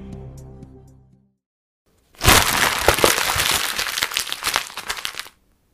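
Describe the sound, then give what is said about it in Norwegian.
A short run of tonal musical notes fades out, then after a pause comes about three seconds of loud, dense crackling and rustling as exam papers are crumpled, crushed and tossed in a bin. “Så her kommer lyden av Skråttkast. Kan du gjette hvilke eksamenspapirer vi har krøllet sammen?”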